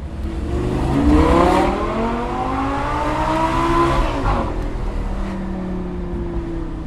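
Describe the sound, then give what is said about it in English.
An Italian sports car that does 0 to 60 in 3.4 seconds revs loudly on the University of Washington campus, its pitch climbing and falling through a few gear changes before settling into a steady drone. No one speaks. “Sitting in this car feels like being on a roller coaster, only everybody's watching, for good reason.”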